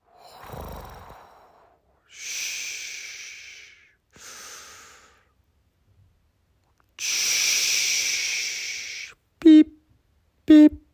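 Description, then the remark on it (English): A voice imitates ocean waves with breathy, hissing whooshes: a short rush, two swells, then a longer steady wash, with pauses between. Two brief, sharp vocal beeps follow at the end, imitating a metal detector on the beach. “Okay, here's the soothing sounds of the ocean.”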